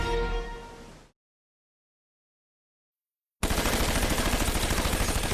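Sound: gunfire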